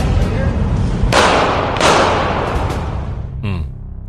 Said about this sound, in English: And that set of gunshots was the other night when a Trump supporter was shot in the streets. It's a chilling video.